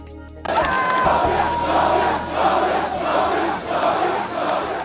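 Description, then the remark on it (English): A large crowd of supporters in Monrovia, Liberia, cheers and roars continuously as George Weah, declared winner of Liberia's presidential election, waves to them; the loud mass of voices swells and ebbs in waves after a brief quiet start. “An emotional George Weah waved to cheering supporters in Monrovia Thursday.”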